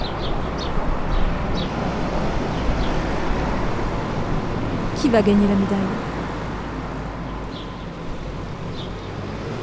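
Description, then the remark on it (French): Birds chirp in short bursts over a steady, loud mechanical rumble of farm machinery as a farmer unloads hay bales outdoors on a sunny day, with one sharper call standing out midway. A man speaks briefly over the outdoor din. “Les oiseaux qui s'égosillent ou l'agriculteur qui décharge ses bottes de foin?”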